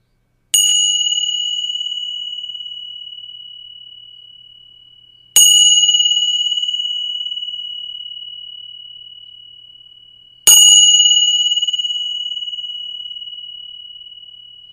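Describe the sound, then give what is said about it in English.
Three bright strikes of Tibetan bells spaced about five seconds apart, each a clear ringing tone that lingers and slowly fades before the next, fairly loud with no talking. “These are Tibetan bells. And I'm going to ring them for you.”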